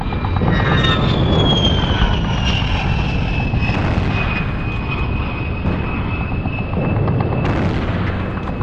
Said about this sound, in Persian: صدای غرش هواپیماهای دشمن که گویی از چند متری روی آمبولانس عبور کردن زمین و زمان رو لرزوند.